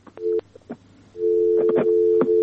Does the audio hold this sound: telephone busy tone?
yes